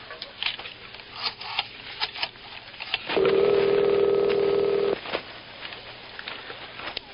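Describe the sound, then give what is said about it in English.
A telephone rings once, a steady electronic tone lasting under two seconds, moderately loud against a faint background of light clicks and tapping. “Phone's ringing. I gotta run.”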